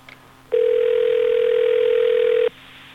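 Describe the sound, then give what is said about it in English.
A steady telephone dial tone on an outgoing call from a phone bank on air switches on abruptly and holds at an even, loud level for about two seconds before cutting off cleanly, with faint line hiss around it and no voices. “Why can't we dial out on our phone bank on the air?”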